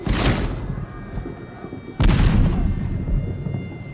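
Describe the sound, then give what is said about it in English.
Two heavy cannon blasts about two seconds apart, each a sharp, loud crack that rolls into a deep, lingering rumble as it fades; cannon going off in an artillery barrage. “Now that will be cannon going off.”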